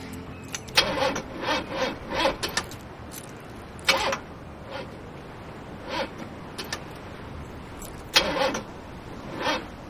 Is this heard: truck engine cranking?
yes